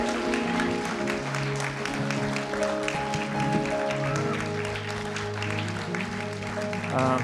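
A room full of people claps steadily for several seconds, the dense applause blending with sustained music playing underneath, fairly loud and continuous throughout.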